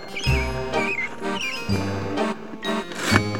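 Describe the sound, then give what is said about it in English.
A couple of quick, warbling bird chirps ring out over a steady musical backing with low tones and soft rhythmic hits. The chirps are clear. “this is a bird.”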